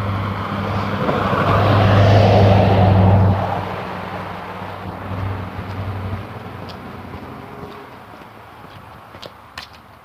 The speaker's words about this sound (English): So it's a Sunday morning. It's real quiet here. As I say that, three cars go by. There's two. Here comes the third.